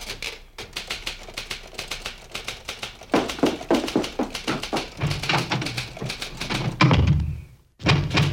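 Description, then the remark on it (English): A door closes with a heavy thud near the end, in the office of the police commissioner of Midland City, followed by a brief hush. Before that, a steady rapid clatter of taps and clicks runs throughout. No one speaks. “You want to close the door? Okay.”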